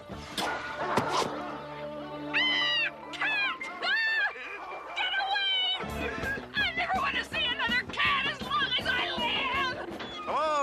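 Cats meow repeatedly in rising, wavering cries, several overlapping amid a busy, loud background of music and other animal yelps.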